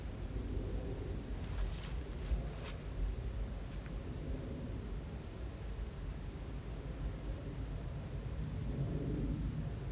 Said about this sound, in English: You can hear that plane up there. There it is. There's a plane up there about 35,000 feet flying over.